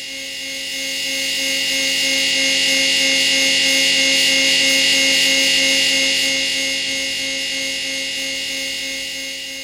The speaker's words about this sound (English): which is basically the buzz of an electric chair. It is it is terrifying.